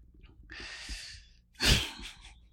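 A single yawn: a long, breathy drawn-in stretch followed by a louder, airy release, heard on its own without any talking.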